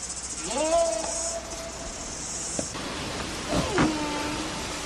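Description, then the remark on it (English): A steady, high-pitched cicada drone buzzes through the first half and then drops away, over a constant rush of wind on a very windy day, with two brief rising whistle-like tones. “Right now, you're probably able to hear the wind blowing. It's been a very windy day. You can hear the cicadas making their little sounds.”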